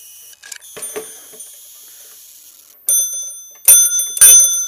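A small clock chime rings in bright, metallic tones, with a lingering tone first and then three sharper strikes near the end, each leaving a shimmering ring, amid some faint handling clatter.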